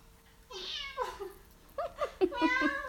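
A cat meows repeatedly, a few drawn-out, rising and falling cries in quick succession, with no one talking over them.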